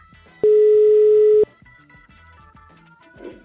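A single loud, steady telephone ringback tone lasts about a second while placing a call from The Voice. Soft background music plays beneath and continues after the tone stops.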